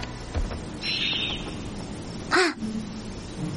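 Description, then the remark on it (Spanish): Crows caw loudly over a busy outdoor background as they chase after three beetles, with one harsh call early on and a sharper, louder caw near the end, followed by lower rustling movement. “Uno de los pájaros se posa a espaldas de los tres escarabajos. Llama la atención de los demás.”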